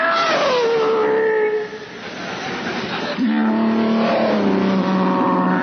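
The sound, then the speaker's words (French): Sound-effects artist Michael Winslow mimics a car whooshing past with his mouth, a buzzing engine tone sliding downward in pitch, then a second revving pass starts up after a brief dip, fairly loud. “C'est un bruiteur, un mec qui fait des bruits avec la bouche, quoi. Genre voiture qui passe.”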